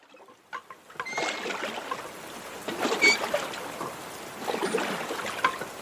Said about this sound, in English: After rowing the boat a few hundred feet from shore, something awful happens.